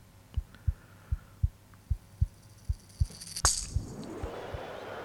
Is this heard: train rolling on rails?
no